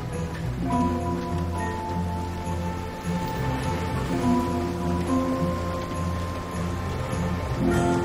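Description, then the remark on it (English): Heavy rain pours outside in a steady, dense hiss throughout, blended with sustained low musical tones that hold underneath the downpour without any talking. “It's pouring rain outside.”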